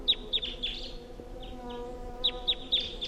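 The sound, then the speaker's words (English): A wild bird calls from the top of a tall pine tree in a series of sharp, high-pitched chirps: three quick notes, a brief pause with softer notes, then three more, over a faint steady background hum. “There's a wild bird here.”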